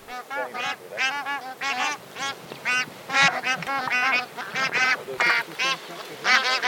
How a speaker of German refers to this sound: Und damit ein herzliches Willkommen diesen schönen Gänsen. Die Rufe sind wie immer bei Gänsen jetzt nicht so wahnsinnig spektakulär.